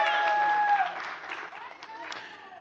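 An audience claps together in a dense, steady patter that holds for a couple of seconds and then thins slightly, with a brief high tone sounding over the start.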